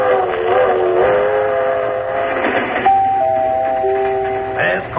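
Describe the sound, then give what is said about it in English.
A passenger train, the 7:30 to Florida and Waypoint, runs with a steady, loud rumble while long sustained whistle tones sound over it, stepping to a new pitch partway through and holding to the end. “It's the 7:30 to Florida and Waypoint.”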